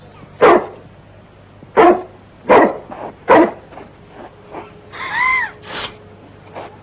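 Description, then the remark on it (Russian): A large dog barks loudly, four deep barks at uneven intervals, then a short whining yelp and a few softer huffs trailing off. “Крупная собака.”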